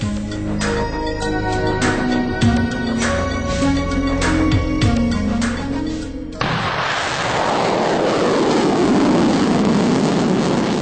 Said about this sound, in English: Gotta love that sound if you're a regular in these parts. It was a Black Brant 9 rocket taking off from Wallops Island, Virginia, last August 17. Tucked tightly into the nose of that rocket was the Inflatable Reentry Vehicle Experiment, or IRVE.